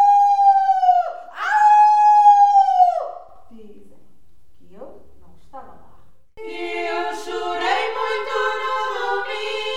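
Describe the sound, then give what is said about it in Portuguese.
A person's voice imitates a wolf howling at the moon: two long, loud howling calls in quick succession, followed after a short pause by another strained, drawn-out vocal sound. “Saiu para a rua, para a estrada que vai para a pau, virou-se para a lua e começou a uivar.”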